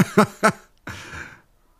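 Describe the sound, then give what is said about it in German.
A pet cat meows in quick short bursts, two or three close together, then lets out one longer, drawn-out meow before falling quiet. The sound is fairly loud, with no talking. “Das sind meine Katzen, ich kann da nichts dagegen.”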